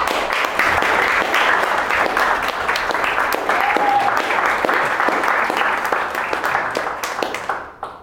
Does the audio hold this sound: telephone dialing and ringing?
no